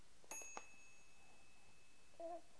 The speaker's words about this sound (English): Okay, wanna play with your house? What's this, the doorbell? Ding! Who's home? Anybody home in the house?